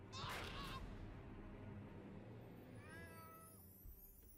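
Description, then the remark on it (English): A cat inside a dojo meows twice: a short, bright cry at the start, then a longer, drawn-out meow a few seconds later, both fairly faint against a low background rumble, with no one talking. “Oh, there's a cat inside the dojo?”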